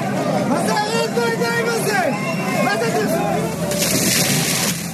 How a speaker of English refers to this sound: Demonstrators in Jerusalem getting hit there with water cannon.